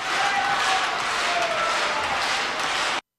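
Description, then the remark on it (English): A concert audience claps together rhythmically but off the beat, not real applause, meant to unsettle the performer; a dense, steady wash of hand claps that stays loud throughout, with no voices standing out, then cuts off abruptly at the end. “Alors il ne faut pas se tromper, ce ne sont pas des vrais applaudissements en fait, c'est le public qui tape dans les mains de manière rythmée mais à contre-temps pour déstabiliser tout simplement”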